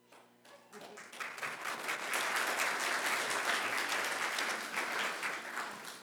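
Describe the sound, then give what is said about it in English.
An audience breaks into applause, a dense, steady wash of many hands clapping that swells after the first second and holds at a loud, even level to the end. “I'm not sure if they were clapping for you or me.”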